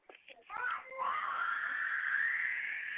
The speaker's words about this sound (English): Oh my God, that baby. My baby's screaming, y'all. I'm sorry.